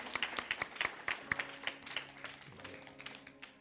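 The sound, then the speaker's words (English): A church audience applauds in the morning, many hands clapping in a dense, steady patter indoors, with faint sustained musical tones surfacing under the claps toward the end. “Let's give Liberty Church a big hand clap this morning.”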